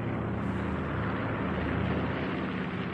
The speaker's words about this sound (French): Alors là, on entend nettement un moteur à hélice.